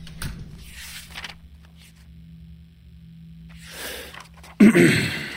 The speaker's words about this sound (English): Guard, could you shut that door, please? Yes, sir. I'm right outside if you need me.